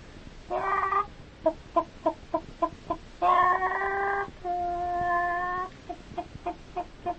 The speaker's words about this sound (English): And that's a chicken.